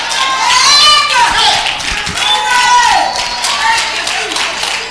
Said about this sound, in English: Clap your hands.